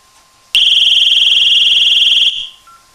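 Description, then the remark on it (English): A loud, piercing Simon home security alarm siren blares steadily for about two seconds after a sharp onset as the front door is opened, then cuts off abruptly, leaving a faint electronic tone and quiet background noise. “So what we're going to do is open the front door, and it is going to alarm.”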